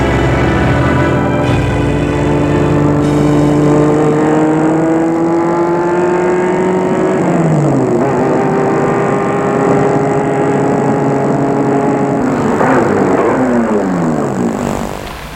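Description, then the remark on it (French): A car engine hums steadily as the vehicle drives, its pitch rising and falling through gear changes, loud with no voices over the continuous drone. “ils sont sortis de chez lui et ont pris la voiture”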